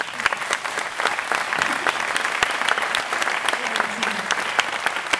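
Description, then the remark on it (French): Sustained audience applause for François Badenès of Nantes, creator of la fabrique de Nantes: a dense patter of many hands clapping at a steady moderate loudness for several seconds, with no voices standing out. “François Badenès de Nantes, que je vous demande d'applaudir.”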